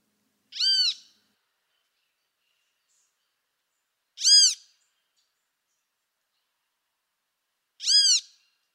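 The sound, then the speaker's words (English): A great kiskadee, awake, gives three loud, harsh calls, spaced a few seconds apart, each a short bright burst with clear silence between them and no other sounds. “This one is from the bird you've been using for research, the great Kiskadee.”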